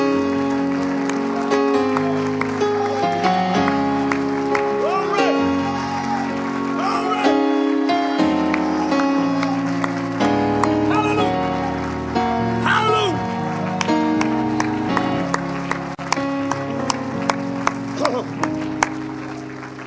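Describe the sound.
An audience claps their hands in sustained applause to give God praise, steady and fairly loud, blended with music and voices that carry on throughout.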